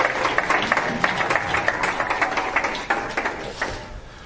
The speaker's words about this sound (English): Thank you, guys. Give these guys a round of applause if you would. Appreciate it.